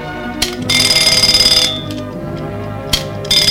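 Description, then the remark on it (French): A small, just-repaired alarm clock rings loudly in rapid, buzzing bursts, a shrill metallic rattle that starts and stops, with a brief burst near the end, with no voices. “Lorsqu'il eut réparé son petit réveil et qu'il le vit fonctionner, il fut fou de joie.”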